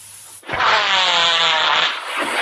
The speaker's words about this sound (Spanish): ¿Qué ha sido eso? Una interferencia.